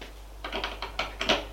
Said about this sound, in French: Frappe à la porte.